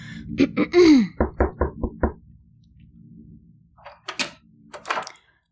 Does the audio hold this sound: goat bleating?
no